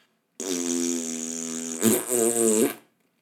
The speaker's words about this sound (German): Vor Schreck knattert er einen dicken Furz in den Zahnarztstuhl.